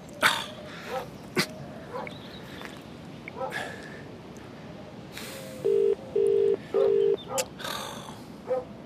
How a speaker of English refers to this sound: Hey, we've got a problem. There's a dog chasing the ewes.